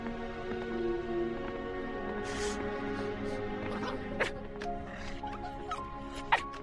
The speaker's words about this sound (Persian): او خیلی عجیبه، اولین باره که این سگ صدا میده. اصلا نمیدونستم پارسم بلده.